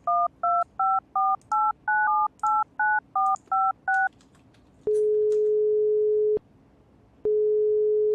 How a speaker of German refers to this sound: Versuch bitte jetzt mal diese Nummer, ja? Wähle sie vorsichtig und mit Bedacht.